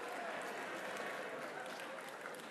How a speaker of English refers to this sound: I've been doing this a long time. I've never gotten a cheer for Piggly Wiggly. Y'all are my people.